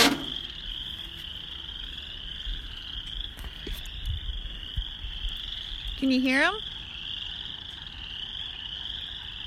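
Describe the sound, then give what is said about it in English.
A steady outdoor chorus of frogs croaking in spring, a continuous high-pitched trilling drone that carries on throughout, with a person briefly speaking over it partway through. “And while you're going for a walk, I'm going to go for a walk outside, and I'll see if you can hear the frogs.”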